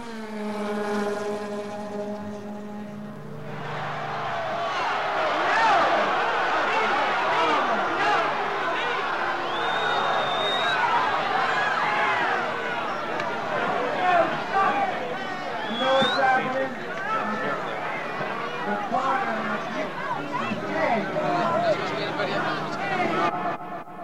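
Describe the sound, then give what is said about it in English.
A scuffle between band members and members of the Hells Angels on a concert stage at Altamonte Raceway on a Saturday afternoon: a brief sustained amplified tone gives way to a loud, chaotic wash of shouting voices and crowd noise that churns on steadily for about twenty seconds. “That was the sound of a little violence on the stage Saturday afternoon at Altamonte”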